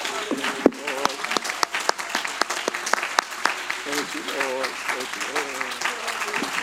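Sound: audience clapping hands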